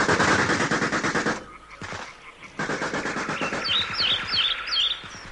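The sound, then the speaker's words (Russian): Rapid machine-gun fire from Hitler's soldiers on a bridge rattles in dense, loud bursts, breaks off briefly, then resumes steadily while high bird chirps flutter over the shooting toward the end. “Расстались с жизнью бойцы, которые бросили за своим командиром, а гитлеровцы на мосту все не прекращали огонь, панически отстреливаясь от собственного страха.”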